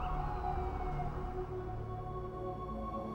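Steady low rumble of city traffic on a chill evening with a siren wailing over it, its tone sliding as it passes. Loud and continuous throughout, with no voices.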